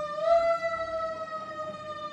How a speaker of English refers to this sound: Hold for siren. Yeah, there's a nice fire truck going on.